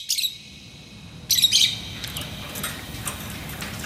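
caged birds chirping

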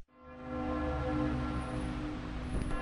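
church bells ringing

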